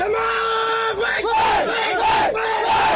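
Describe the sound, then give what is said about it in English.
A crowd of baseball fans in Myanmar chants and cheers together at a game against the Myanmar national team, in loud, rhythmic waves, voices rising and falling in unison with shouted syllables repeating roughly every second. “Like the language that they use and the cheers that they do.”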